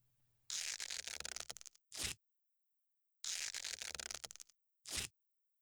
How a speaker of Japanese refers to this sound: 隙間から覗かないように、ここにあるビニールテープで窒息しないように斜めに貼っておくわね。